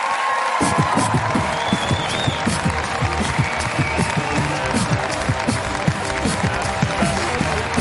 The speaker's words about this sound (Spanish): Un aplauso para … hoy en La Resistencia.